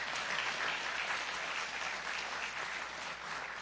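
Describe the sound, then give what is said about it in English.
An audience gives the Lord a hand clap at a morning service, steady, dense applause at an even loudness from start to finish, with no one speaking over it. “Can we just give the Lord a hand clap, amen?”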